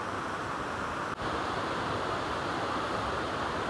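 A river in full spate after recent heavy rain rushes loudly and steadily down the valley in Wharfdale, a dense, continuous roar of churning water, with no voices and barely any change in intensity.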